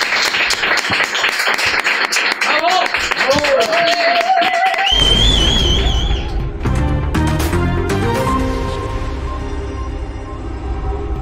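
An audience breaks into loud, steady applause with a few whistles and cheers; about halfway through, a bass-heavy music bed comes in beneath the clapping.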